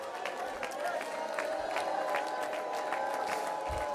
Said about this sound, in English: You know why we clap and shout? Because the Bible says, oh, clap your hands. All you people, shout.